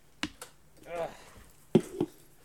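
A door creaks open with a short, wavering squeal, set between several sharp clicks and knocks like a latch and handle being worked.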